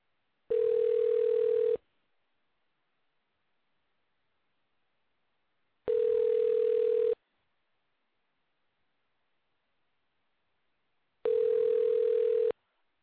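A telephone line tone, from a call placed during a radio show to a coworker who wants to listen to the show, sounds in three steady, buzzy bursts, each a little over a second long, separated by equal gaps of silence, with no voices.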